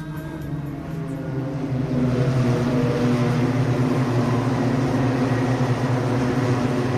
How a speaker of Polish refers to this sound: Tak też było na Torze Poznań, gdzie po raz pierwszy odbyły się zawody kartingowe Rotax Max Challenge.